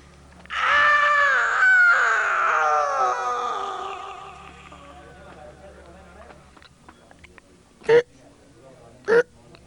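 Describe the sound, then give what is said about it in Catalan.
A loud, drawn-out scream of about three seconds, used as an answering machine signal, that wavers and slides downward in pitch, then fades, followed later by two short, sharp bursts of noise. “El nostre senyal és un crit.”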